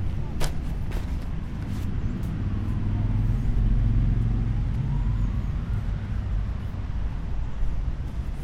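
A car drives by with a deep, rumbling engine that swells to its loudest midway and then slowly recedes. A few sharp clicks sound near the start.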